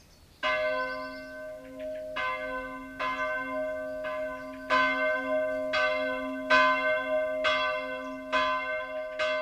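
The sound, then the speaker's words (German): Church bells ring at 2 pm on a Saturday to ring in Sunday, in a steady sequence of loud, resonant strikes, roughly one every second or so, each leaving a long humming tail of overtones that overlaps the next. No voices are heard. “Samstags um 14 Uhr wird der Sonntag eingeläutet.”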